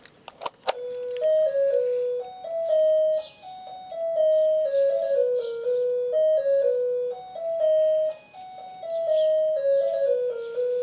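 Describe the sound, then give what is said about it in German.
A melodic doorbell chime at a semi-detached house in a small town in Saxony-Anhalt, Germany, plays a tinny, electronic tune that loops over and over, loud, with a few sharp clicks right at the start and no voices. “Das wohl schlimmste Geräusch hier ist die Klingel.”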